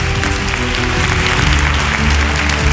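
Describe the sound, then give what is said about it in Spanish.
Steady, dense applause from an audience fills the whole stretch, loud, with a low murmur of crowd voices underneath and no single clap standing out. “Gracias por este aplauso, pero no tiene importancia.”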